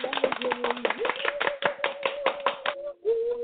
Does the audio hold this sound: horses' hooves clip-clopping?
no